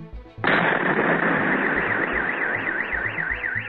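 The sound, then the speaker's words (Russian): A sudden, loud explosion during a fire at an FSB border department warehouse in Rostov region, Russia, filmed by eyewitnesses, bursts in after a quiet moment, followed by a continuous rumbling roar while a car alarm's wavering wail rises over it toward the end. “На видео, снятом очевидцами, слышен взрыв.”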